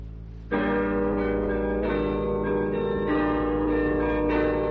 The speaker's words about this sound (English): That's the identification of Radio Netherlands, comparable to our familiar trademark, the NBC chimes.